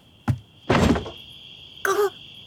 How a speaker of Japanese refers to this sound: ああ、帰ってきたか。なんだよ、ノックなんかしないで入ってくればいいのに。